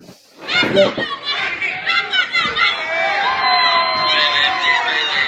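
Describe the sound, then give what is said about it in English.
A crowd cheers and chatters continuously, with overlapping shouts and whoops rising over a steady wash of many voices that builds in the first second and holds loud throughout. “Listen to the crowd.”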